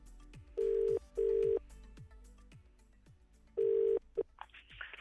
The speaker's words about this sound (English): All I have is the number, which is now dialed in. Let's ring it. Now, the last 5 times I've done this competition, nobody has answered the phone, so positive thinking, please.